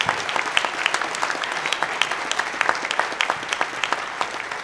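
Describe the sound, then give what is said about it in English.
An audience applauds a panel steadily for several seconds, a dense patter of many hands clapping at an even, moderately loud level with no voices standing out. “Please give a round of applause for our panel.”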